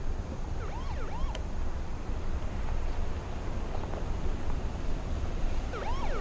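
The siren of an approaching car wails in short rising-and-falling sweeps that come and go, heard over a steady, rough rumbling background; no one speaks.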